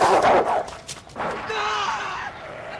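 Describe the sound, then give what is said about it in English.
A police dog barks and snarls in loud, harsh bursts while attacking a cornered suspect, followed by a strained, drawn-out cry that sounds like a human voice. “They used a police dog to subdue him.”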